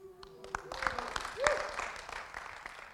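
An audience breaks into applause, many hands clapping in a dense, steady patter that swells briefly in the middle, with a few faint voices and cheers mixed into the noise.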